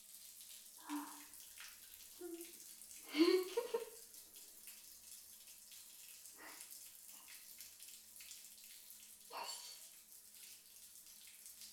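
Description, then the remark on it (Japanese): Running water rinses off shampoo foam, a soft steady hiss broken by a few louder splashes and gurgles as the stream shifts, fairly quiet, with no talking. “それじゃあ、泡を洗い流すぞ。”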